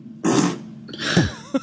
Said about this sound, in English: Well, you're appalled at these women farting. I'm appalled, too.